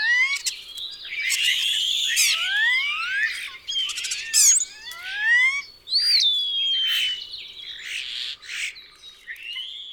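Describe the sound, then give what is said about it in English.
A European starling runs through a busy stream of whistles, squeaks and wheezy, buzzy calls, with sliding high notes and brief clicks tumbling over one another continuously, fairly loud and with no talking. “Introduced to the United States in 1890, the European starling whistles and squeaks and gives wheezy calls.”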